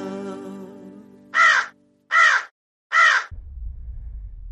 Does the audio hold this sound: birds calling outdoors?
yes